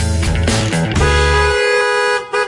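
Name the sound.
car horns honking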